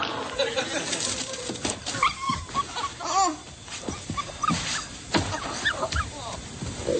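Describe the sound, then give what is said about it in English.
A brown puppy whines in high, wavering cries, broken up by short yips and barks that repeat throughout, against a steady background hum. “So you bought a puppy for your kid for Christmas?”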